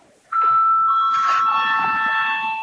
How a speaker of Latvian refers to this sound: Lūdzu aktivizēt sadaļu par procedūru. Lūdzu zvanu.